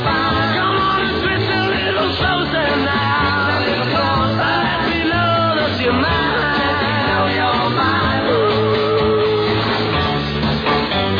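A singer screams at full force over a loud, dense rock band, the raw wavering vocal pushing continuously above pounding drums and guitars for the whole stretch.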